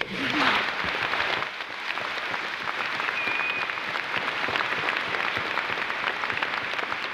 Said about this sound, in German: Für die Arbeitsgruppe Wehrdienst des neuen Forums sprach, immer wieder von tosendem Applaus unterbrochen,